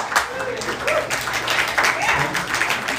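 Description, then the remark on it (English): A few scattered, uneven handclaps from a stand-up comedy audience, clapping at a joke about relationships, ring out at a moderate level, mixed with crowd voices and murmuring throughout. “Seen a couple cheat claps, y'all like, oh.”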